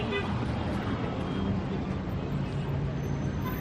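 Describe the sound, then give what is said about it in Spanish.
A steady, rumbling engine drone of an old diesel car, low and loud throughout with a rough, continuous texture and no speech over it. “Y todo, como digo, con el objetivo de que cada vez sea menos común escuchar esto.”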